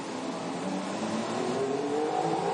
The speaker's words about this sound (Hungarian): Na és mintha valaki elhagyta volna a box utcát a hangok alapján. Jó hallod. Az egyik Williams lesz az? Bottas. Valtteri Bottas jön a Williams Mercedes-szel.